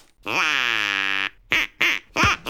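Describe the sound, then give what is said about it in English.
A duck quacks loudly: one long, drawn-out nasal quack followed by three quick, clipped quacks in a row. “And just to prove we're serious about this, we've got a duck. And we're not afraid to use it.”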